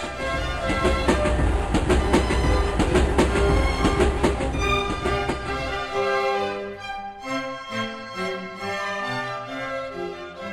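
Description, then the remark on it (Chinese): A steam train chugs and clatters loudly along the tracks with a steady rhythmic beat as it pulls away from a station platform after its doors close and the conductor blows a whistle, leaving puffs of white smoke. Gentle music takes over partway through. “过了两三分钟之后，车门关闭，列车长吹哨，火车从轨道上滑行而去，留下了一团团白色的烟雾，还有我们沉重的心。”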